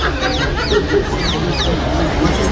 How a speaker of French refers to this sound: Ils sont attaqués par une oie là-bas. Ils se font pincer les fesses par une oie, ceux qui vont dans le Jourdain.